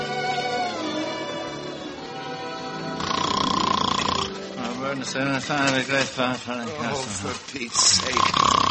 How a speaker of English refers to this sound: Can't you stop that snoring?